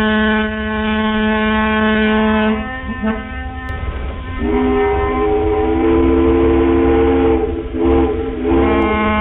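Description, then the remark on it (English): Loud, sustained ferry boat whistle blasts with a deep, reedy, harmonic tone, shifting pitch a couple of times as one long signal blends into the next, with no talking. “Thornley decided to collect each and every ferry signal in all of their varied glory”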